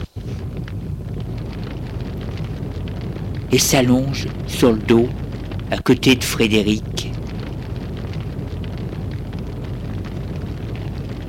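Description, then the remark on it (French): A fire burns steadily in a dim room with a constant low roar and faint crackling. Midway through, a voice speaks briefly over the flames. “Il n'y a que le bruit des flammes.”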